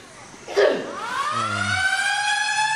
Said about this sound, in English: gym in America where they actually play an alarm, like a big, massive alarm, if you start grunting. They really don't like it. And you can set it off just by doing a few reps loudly. Bit of deadlift in there. Mate, you're going to set off the alarm.